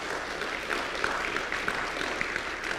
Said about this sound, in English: Yes, please give them a round of applause.